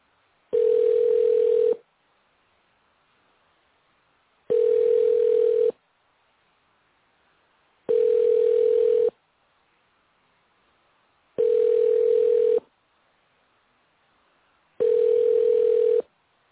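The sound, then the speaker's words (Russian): A phone ringback tone repeats five times, each steady tone lasting about a second with roughly two-second gaps of silence between them, and the call to a mother's phone goes unanswered. No one speaks. “Абонент не берет трубку.”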